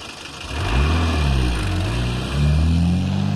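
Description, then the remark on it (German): A chauffeur-driven car's engine revs up and pulls away at speed toward the castle treasury, its droning pitch climbing, dipping briefly as if shifting gear, then rising again. Steady and fairly loud throughout, with no voices. “Der Chauffeur machte ordentlich Dampf und in 0,nix waren wir vor der Tür zur Schatzkammer.”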